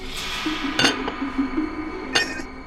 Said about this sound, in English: When I saw Mrs. Pratchett turn her head away for a couple of seconds, I lifted the heavy glass lid of the gobstopper jar and dropped the mouse in.